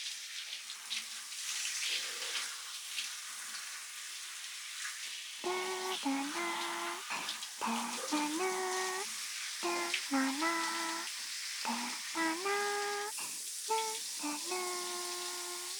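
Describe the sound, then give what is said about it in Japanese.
Steady running water from a shower splashes and rinses soap foam off a person's arms continuously, with gurgling, shifting tones as the stream hits a surface; no one speaks. “それでは改めて、泡を流しますね。”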